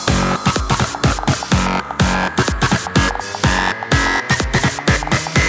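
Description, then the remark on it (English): Loud electronic music with more fat distortion added: heavily distorted, with pounding kick drums on a steady fast beat, a gritty buzzing synth tone sustained over the top, and dense noisy texture filling every gap. “More distortion.”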